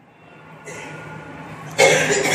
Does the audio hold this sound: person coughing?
yes